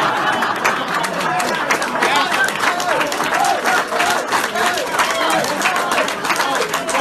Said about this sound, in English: Listen to the clap. Listen to the audience there. So a couple things that are really telling. First off is the audience clapping, right?